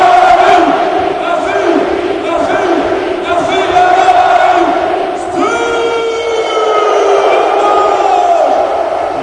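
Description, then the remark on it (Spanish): A large crowd chants the characteristic cry of the Portuguese player together in a loud, steady roar of voices, with long drawn-out cries that swell and repeat, and one sustained, rising shout in the second half. “Veo coreando el grito característico del portugués, que va a invitar al nuevo compañero.”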